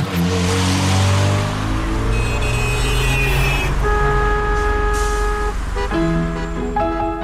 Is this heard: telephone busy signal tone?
no